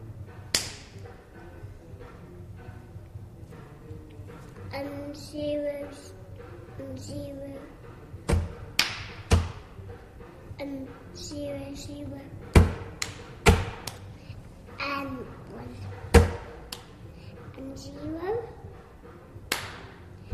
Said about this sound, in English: Okay, well, you did some clapping. The clapping sounds like it could be some good music.